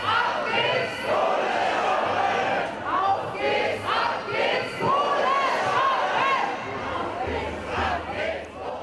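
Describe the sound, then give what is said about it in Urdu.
A large crowd of protesters in Bonn chants and shouts slogans together continuously, a dense, loud wall of many voices with rhythmic swells, calling for coal use to be stopped ahead of a climate change meeting. “تاہم اس سے قبل بان میں مظاہرے شروع ہو گئے ہیں, جس میں مظاہرین نے نعرے لگاتے ہوئے کہا ہے کہ چلو کوئلے کا استعمال بند کرو.”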